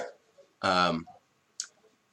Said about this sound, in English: oh good, there's a dog barking now because someone's ringing my doorbell.